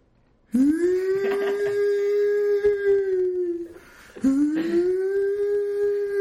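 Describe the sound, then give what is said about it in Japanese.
A voice imitates a siren with two long, sustained wails, each rising at the start and then holding a steady pitch, with a short dip and pause between them. “ちょっとサイレンみたいな、サイレンみたいにあしらってみました。”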